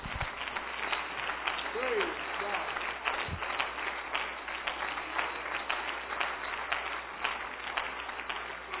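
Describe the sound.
A crowd of worshippers claps their hands for the Lord after a prayer, steadily for several seconds, a dense, sustained patter of many hands at moderate loudness with faint voices mixed in.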